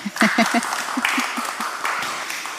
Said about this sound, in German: Auch Ihr Applaus.